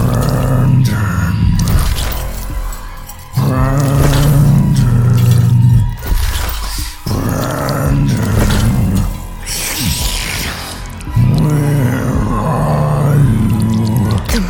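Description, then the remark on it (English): An enormous monster with chains around its neck, fangs and claws, and blood dripping from its mouth, lurks around a room. It growls in deep, drawn-out, moaning waves: four or so loud rumbling bursts rising and falling in pitch, with wet, dripping textures mixed in and no talking. “I try to control my breathing as I hide from this giant monster lurking around.”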